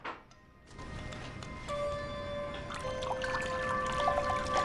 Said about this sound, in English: takes the bottle from her and steps into a bathroom to pour a couple of glasses.